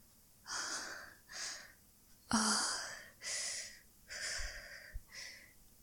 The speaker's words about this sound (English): Breathing kinda heavy there, stud. I wonder why.